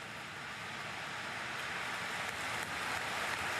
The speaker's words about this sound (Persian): بعد از سخنرانی صدای کف زدن چند صد هزار نفر از پشت دره کلیسا مثل یه موج وارد کلیسا شد.